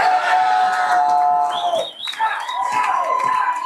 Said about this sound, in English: As the clock wound down on Super Bowl 60, a roar went up at the Roanoke Bar in Seattle, one of many packed to capacity across the city.